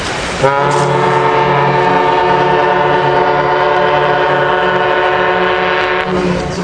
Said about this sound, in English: After the Badger sounds its horn in the harbor and pulls in, hundreds of passengers get off the boat and head for their destinations.